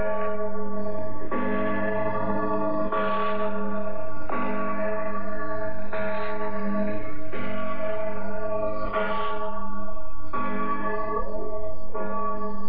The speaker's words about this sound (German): Mit diesem Glockengeläut wechseln wir zur Radio DDR und ins Jahr 1957.